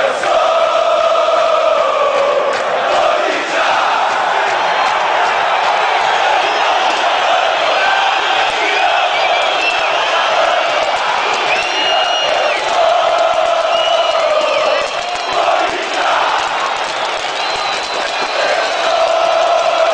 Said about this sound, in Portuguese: a torcida do Corinthians ajuda a dar motivação e incentivo aos jogadores que estão em campo, através de seus cantos e gritos de guerra